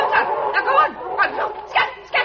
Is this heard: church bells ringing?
no